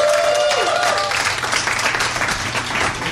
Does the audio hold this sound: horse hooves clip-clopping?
no